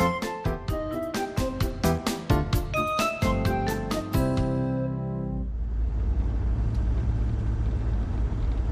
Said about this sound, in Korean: 멀리서 자동차가 다가옵니다.